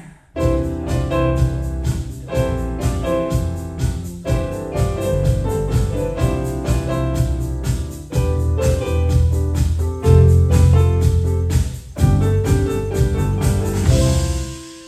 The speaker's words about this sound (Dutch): We hebben hier mensen uit China op de keyboard en zelfs iemand op de drum en iemand op de bas. Oké, take it away, guys. 1, 2, 3.